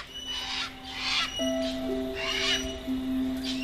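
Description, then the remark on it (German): Two parrots in a jungle squawk in a series of harsh, raspy bursts, about five calls spread across a few seconds, over a steady low musical drone. “Ihr zwei beschließt, noch ein wenig weiter durch den Dschungel zu ziehen und verabschiedet euch deshalb von den beiden Papageien.”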